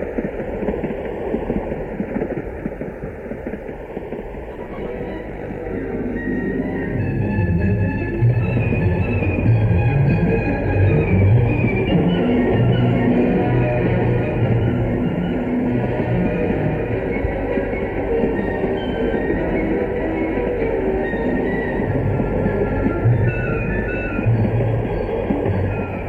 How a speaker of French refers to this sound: Le train file vers sa destination.